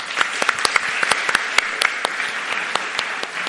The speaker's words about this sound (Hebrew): אנחנו מאוד שמחים שבאתם, תודה לכם, קודם כל כפיים על זה.